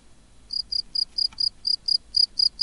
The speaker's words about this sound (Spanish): ¿Qué es lo que es? ¿Es un grillo? Pues sí. ¿Sabes a qué especie pertenece ese grillo? Pues, ¿qué quieres que te diga? Va a ser que no, ¿no? Va a ser que no. Pues era un grillo campestre. Técnicamente se llama Grillus campestris.